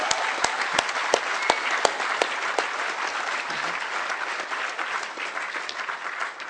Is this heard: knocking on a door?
no